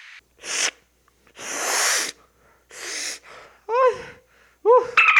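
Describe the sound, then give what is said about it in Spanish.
Loud, harsh nasal snorts in quick succession as a person snorts cocaine, one long drawn-out sniff in the middle, followed by a couple of sharp, rising vocal whoops. “Espera, me voy a seguir metiendo perico.”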